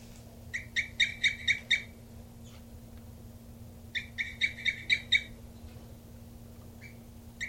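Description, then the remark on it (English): A nesting bird, numbered 3-3, calls in two brief bursts of about six quick, evenly spaced notes each, with a pause between them, over a steady low hum and no talking. “3-3 still slightly cooping.”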